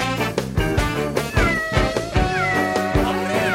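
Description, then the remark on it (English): A cat meows loudly in several drawn-out, wavering cries over a dense, busy background of other sound. No one speaks. “Have you by any chance lost your kitty?”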